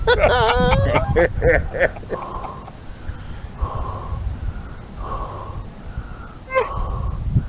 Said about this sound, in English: This is the most offensive video ever released to mankind. Why the fuck is he heavy breathing, make too?